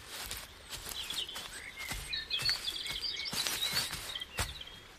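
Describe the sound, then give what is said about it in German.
Several birds chirp and twitter in short high phrases at dawn, over a steady outdoor background with scattered soft thuds and rustles like footsteps on grass. “Und als schon längst die ersten Vögel sangen, lag es noch immer in tiefem Schlaf.”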